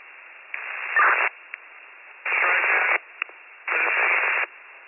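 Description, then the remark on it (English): Three bursts of harsh, garbled radio static about a second long each, separated by a steady low hiss and a couple of sharp clicks, sounding like a broken transmission; a unit's radio call to county fire dispatch not getting through. “I'm sorry, your radio's not making it.”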